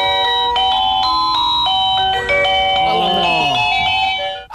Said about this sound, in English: No, I just found the doorbell on the internet. Oh, bro, isn't the internet fantastic? Let's take a listen to the Little Mermaid doorbell.